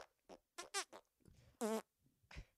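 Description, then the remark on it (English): Someone blows a string of squeaky fart noises with their mouth, likened to SpongeBob's squeaky farts: several short, sputtering bursts, then a longer wavering squeal and a final low toot, fairly loud. “Like SpongeBob with the squeaky shit.”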